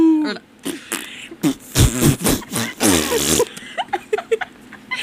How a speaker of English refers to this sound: actually just farted in the studio. Yeah, that wasn't my mouth.